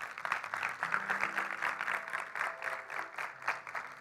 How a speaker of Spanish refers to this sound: ¿Quién le puede dar un fuerte aplauso al Señor?